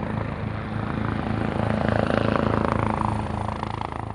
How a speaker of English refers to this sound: Choppers are an expensive way to fight wildfires, and at times there will be a lot less of them than there are fires.